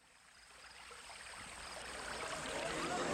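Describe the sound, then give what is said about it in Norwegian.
Steady rushing of flowing water in a desert, a broad hissing wash that swells gradually louder over a few seconds, heard on its own without any talking. “Se, der er det vann.”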